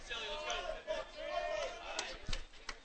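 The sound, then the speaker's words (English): A baseball crowd lets out a swelling murmur of oohs and ahs, many voices rising and falling together, with a few sharp knocks and claps scattered through the noise, reacting to a 0-2 pitch that doesn't get the strike call during a game Hopewell leads 2-0. “You hear the oohs and ahs maybe from the crowd, but doesn't get the call with that one.”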